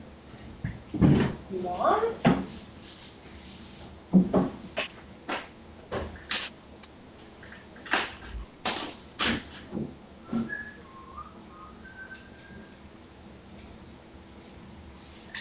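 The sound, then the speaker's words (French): Irregular clacks and knocks of small plastic CD cases being picked up from the floor and put away, a dozen or so sharp handling sounds, with a brief spoken word and some soft background tones. “On va ramasser les petits CD, les petits CD par terre ici, là, qui étaient sur votre chaise. Je vais le mettre avec l'autre.”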